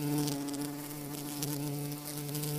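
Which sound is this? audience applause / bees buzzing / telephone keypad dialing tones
bees buzzing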